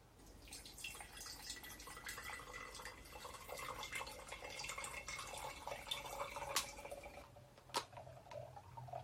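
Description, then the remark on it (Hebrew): Water runs and splashes steadily as something is rinsed repeatedly to wash out dirt until the water runs clean, with scattered drips and clinks over a continuous wet hiss; no one speaks. “כל פעם שאני אעשה את זה, זה יוריד עוד לכלוך, ועוד לכלוך, ועוד לכלוך, ובסוף, בסוף, בסוף, אתם תראו כמו עכשיו, הנה, מים מתחילים להיות ממש, ממש נקיים. אז אני פשוט אמשיך את התהליך.”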